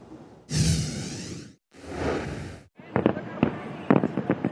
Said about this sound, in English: Everybody was right here, and there was just popping fireworks, like doing burnouts and stuff.